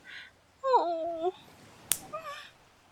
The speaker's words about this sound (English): You slapped me down there.